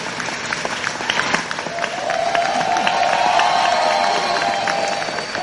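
A crowd of students at Vaughn College of Aeronautics in New York applauds steadily as a 94-year-old former World War II woman pilot receives an honorary doctorate. Dense clapping fills the whole stretch, with cheers and a sustained whoop rising in the middle as the ovation swells.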